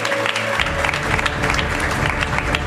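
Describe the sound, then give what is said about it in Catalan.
An audience at an awards event applauds steadily as a guest is introduced, a dense wash of many hands clapping at once that stays loud and even throughout, with no voices standing out. “Un fort aplaudiment també per ell.”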